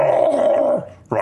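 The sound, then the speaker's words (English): A person voices a loud, throaty roaring growl that trails off, pauses briefly, then starts again, imitating a turtle's gurgling roar, with no other talk. “Yeah, you would roar gurgle.”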